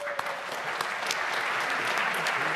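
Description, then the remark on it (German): Steady audience applause welcoming a speaker before a talk on the BSI's BioP2 study of biometric field tests in Europe, a dense wash of many hands clapping at an even loudness for the whole stretch, with no voices standing out. “Jubel Perser.”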